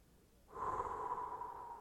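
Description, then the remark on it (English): After a brief pause, a deep, airy breath is drawn, a steady rushing sound lasting over a second with no talking. “Take a deep breath.”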